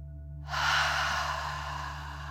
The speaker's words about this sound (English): Let's take 3 more deep dragon breaths. Remember to breathe in through your nose, filling up your belly, and then out, pretending you are breathing fire. Deep breath, in and out.